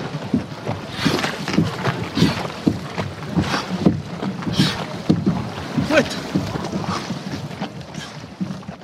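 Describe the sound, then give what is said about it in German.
Heavy panting from two men rowing a boat on the Aare river, in a rhythmic pattern of strained breaths, with steady water and boat noise underneath. The single word "gut" is spoken once partway through. “Zwischen dem Kiechen ein Wort «gut» und es hat offenbar gelangt und die beiden Männer haben ihr Boot exakt dort durchgefahren, wo sie müssen.”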